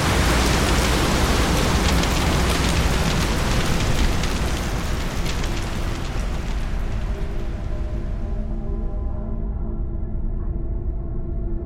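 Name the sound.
storm with heavy rain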